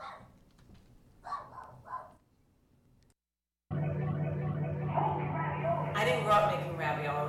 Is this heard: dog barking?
yes